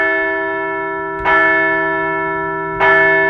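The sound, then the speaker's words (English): A large bell rings twice at an even pace, each clang bright and sharp before a long, humming resonance that sustains throughout, loud with no voices. “So let's ring the bell.”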